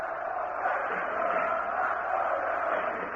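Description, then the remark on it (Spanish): A large Baskonia crowd at a final roars out a war cry together, a dense, sustained wall of many voices that stays loud and steady throughout without pause. “Fíjense, el sonido ambiente, tremendo y trepidante, un grito de guerra.”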